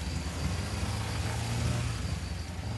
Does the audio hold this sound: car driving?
yes